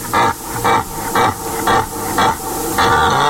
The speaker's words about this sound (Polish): Samce jelenia, czyli byki, w nocy wydają charakterystyczny basowy ryk